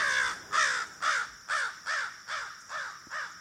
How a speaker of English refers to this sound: But crows have more of a caw, caw.